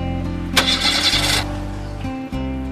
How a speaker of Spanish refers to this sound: Ahora su vieja camioneta se negaba a arrancar.